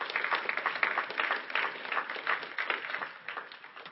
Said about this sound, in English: You can clap. Thank you.